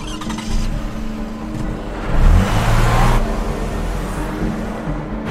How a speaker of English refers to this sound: Outside, she rushes across the street to her SUV. Glancing over her shoulder furtively, she climbs in. After starting the engine, Caitlin speeds away.